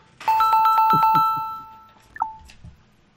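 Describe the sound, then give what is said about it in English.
An electronic telephone ring: a bright, fairly loud burst of rapid repeated tones trailing off, followed about a second later by a single shorter chime. No one speaks. “Somebody pick that damn phone up!”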